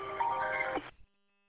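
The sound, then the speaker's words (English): A work phone ringing with a short electronic melody of bright tones for just under a second, then cutting off abruptly into silence. It's fairly loud, thin and tinny, with no one talking. “And there goes my work phone, starting already.”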